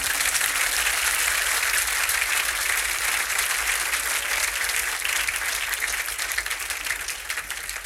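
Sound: clapping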